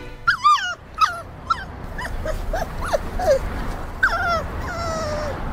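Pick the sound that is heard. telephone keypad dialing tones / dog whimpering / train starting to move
dog whimpering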